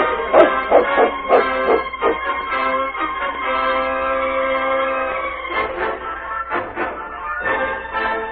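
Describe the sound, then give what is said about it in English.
A dog barks in a quick series of short bursts, then falls quiet under a steady humming drone before a few more barks break through near the end. No one speaks. “And remember, the king here is a bigger, stronger dog than Thunder, and he's going to be right behind you.”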